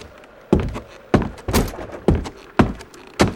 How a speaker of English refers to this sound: As he opened the door to the cellar, something stopped him.